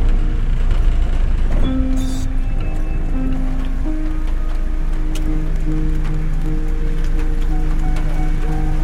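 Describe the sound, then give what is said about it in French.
Steady rain drums on the thin roof of a van, a dense continuous patter of drops with occasional sharper taps, while a faint low hum sits underneath. “Donc là c'est le doux bruit de la pluie dans ma camionnette.”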